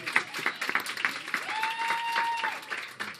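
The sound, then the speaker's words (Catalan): An audience applauds steadily throughout, a dense wash of many hands clapping, with a thin sustained whistling tone briefly sounding over it midway. The applause follows congratulations at an award presentation. “Un aplaudiment, no?”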